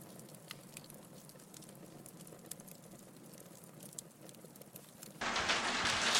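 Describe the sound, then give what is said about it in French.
Large hailstones strike window glass in a dense, irregular patter of sharp taps. Near the end the sound swells abruptly into a loud, steady roar of heavy pelting. “c'est la grêle qui tape c'est la contre, grêle, ouais. Contre mes fenêtres, mais c'est des grêlons énormes”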